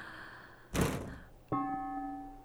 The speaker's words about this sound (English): A banging sound comes from the window again. The Santa Ana winds don't do that to shutters. I got up to close the window only to see a charm hanging, making that tapping noise.